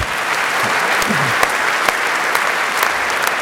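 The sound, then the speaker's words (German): Steady applause from a crowd fills the whole stretch, a dense wash of many hands clapping at an even loudness with a few sharper claps popping out. “Also das fand ich echt einen Applaus wert.”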